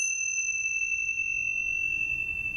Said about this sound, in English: That is one of those Tibetan chimes.